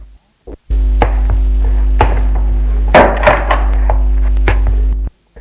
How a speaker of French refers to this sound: Henri entre et il ferme la porte.